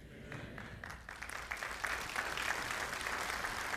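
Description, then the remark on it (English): A worship audience claps together in praise, starting sparse and quickly swelling into steady, full applause, with no voices standing out. “Now, I appreciate you because you just gave me another audible expression of praise and worship.”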